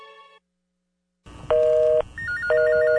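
After a short tone and a brief silence, a telephone rings over a busy background hum: two loud electronic ring bursts about half a second long, with a faint warbling beep between them, in a radio spot for Mexico's emergency phone number.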